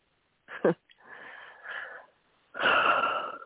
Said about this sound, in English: Good breath. Go for it. I was breathing and thinking about my dad and childhood